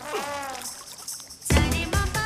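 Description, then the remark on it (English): A sudden, fairly loud splash as a guard is knocked into fountain water, with watery churning that continues afterward, set against steady tonal music of drums and sitar. “Vijay runs into him and knocks him into the water.”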